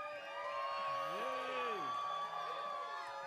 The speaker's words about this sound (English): So everybody yell loud for the people on the radio to hear. Ready?